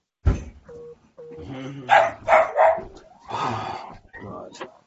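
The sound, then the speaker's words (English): A pet dog barks several times in quick, loud bursts, with a high whining yelp before the barks and more scattered yips and whimpers afterward. “My dog's driving me crazy.”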